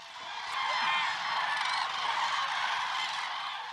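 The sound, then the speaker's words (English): A dense chorus of migratory common cranes calling at their stopover in the Hula Valley in northern Israel, more than 35,000 birds, many overlapping honking and trumpeting voices forming a continuous, fairly loud wash of bird calls with no talking. “Hula Valley in the north of Israel is a popular stopover for migratory birds such as cranes.”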